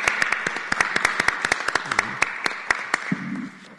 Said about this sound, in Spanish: Y bueno, pues un fuerte aplauso al Cutlajumulco por estos 3 nuevos programas que, siendo tan joven, ya está innovando.